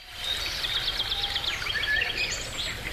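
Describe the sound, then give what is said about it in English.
Several birds chirp and twitter continuously as part of golf-themed intro music, their quick high calls overlapping at a moderate level over a soft, steady background hiss, with no one talking. “The birds are chirping.”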